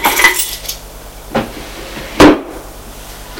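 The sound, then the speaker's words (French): Keys are dropped into a drawer in an office: a light metallic jingle, a brief clack a moment later, then a louder knock as the drawer is handled, with no voices. “Il dépose les clés dans le tiroir.”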